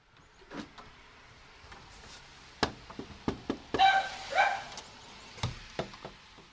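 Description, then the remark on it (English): Several sharp knocks on the door of a poet's home in South Burlington, Vermont, in late February, then her dog barks excitedly from inside, followed by a few more scattered knocks. No one speaks. “That was me back in late February drawing the attention of Karen McCadden's dog when I knocked on the door.”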